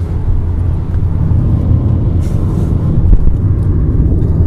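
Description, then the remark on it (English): A steady, low rumbling roar of wind noise inside a moving car, constant and fairly loud throughout with no breaks or voices. “That's an interesting noise. Noise? Wind noise.”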